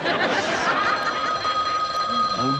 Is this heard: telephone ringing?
yes